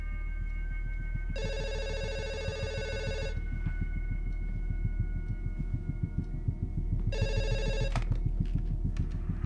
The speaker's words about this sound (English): He turns with trepidation to the ringing phone.